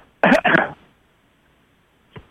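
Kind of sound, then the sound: human body sound, throat clearing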